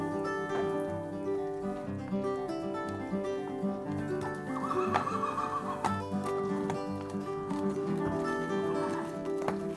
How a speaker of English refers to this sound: Keep walking, but listen. You may hear horses, a solitary neigh, or crisp metal shoes on cobbles.